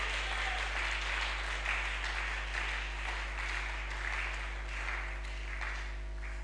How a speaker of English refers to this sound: Oh, if the whole church is clapping, let them clap.